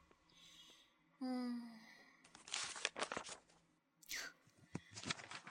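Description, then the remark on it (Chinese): Crisp paper rustling as the pages of a class notebook are flipped in quick bursts while it is checked for notes, with a short breathy vocal sound just before the page-turning starts. “让我看看你平常上课的笔记都记了多少。”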